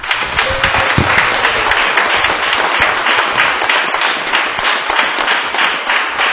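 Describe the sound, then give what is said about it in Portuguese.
An audience applauds Jesus steadily, a dense, sustained wash of many hands clapping at once that stays loud and even throughout, with no speech over it. “Eu gostaria, quem crê de verdade, aplaudam a Jesus.”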